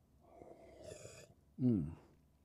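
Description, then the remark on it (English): A soft slurping sip of a drink, followed by a short, louder voiced exhale like a satisfied "ahh." “There's another sip.”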